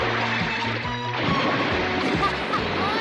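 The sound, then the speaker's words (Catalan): A loud burst of splashing water crashes in as two flying rays, an adult and its young, dive back into the sea, followed by continuous churning and washing of water over a low steady rumble. “Les dues rajades volen per sobre d'ells. I es tornen a submergir.”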